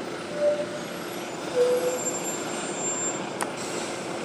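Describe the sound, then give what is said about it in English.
A bus rumbles steadily as it pulls away and turns left, with brief tonal whines and a short, sharp hiss of air brakes near the end. No one speaks. “So I can't remember which way I turned on to get onto Church Road, so I'll just wait for this bus to do it for me.”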